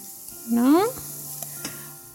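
Lightly golden sautéed onions with tomato paste just added sizzle in a pan with a steady, faint hiss. A brief rising squeak cuts through early on, followed later by a couple of soft clicks.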